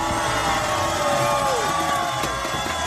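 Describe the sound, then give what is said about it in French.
A large crowd cheers and shouts steadily at night, a dense wall of voices with whoops rising above the roar, loud as a marathon runner pushes through the spectators 100 metres from an Ironman finish line. “100 mètres de l'arrivée. Je fends la foule.”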